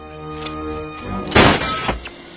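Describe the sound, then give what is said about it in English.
A thick, heavy door is blasted open by charges: one sharp, loud burst with a short rough tail, over a low steady background hum, followed by a smaller thud. “Get some charges. Blow the doors open.”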